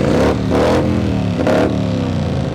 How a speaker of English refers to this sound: This is the Broken Spokes Loud Pipes Contest, where a bunch of bikes line up in the backyard of the bar and compete for best exhaust sound. The central identifying element of the Harley-Davidson is the sound of its exhaust.